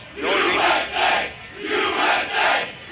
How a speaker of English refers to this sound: I don't know if the kids need to cheer that.